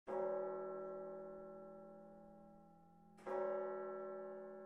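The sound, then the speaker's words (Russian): A clock chimes two deep, resonant strikes about three seconds apart, each rich bell tone ringing out and slowly decaying before the next. No voices. “Вдруг он ясно услышал, что бьют часы.”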